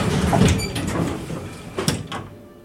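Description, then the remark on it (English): Elevator doors slide open at level 3 after the elevator goes up, with a low mechanical rumble and a couple of soft clunks against a steady hum, then the sound settles and fades. “The elevator goes up, and then at level 3, the doors open.”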